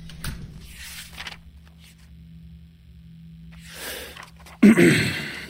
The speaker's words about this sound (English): Guard, could you shut that door, please?